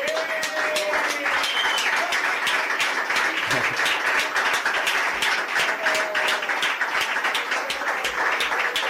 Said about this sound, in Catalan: Ja està. Ovació. Vinga.